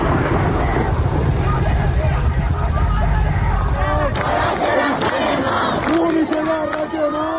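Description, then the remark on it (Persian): Near the University of Kurdistan in Sanandaj, a loud, roaring crowd shouts and clamors throughout during clashes with student protesters, and in the second half a series of sharp, cracking bangs of gunfire sound at irregular intervals over the commotion. “در این ویدئو که از اطراف دانشگاه کردستان در سنندج ارسال شده، صدای تیراندازی و درگیری با دانشجویان به گوش می‌رسد.”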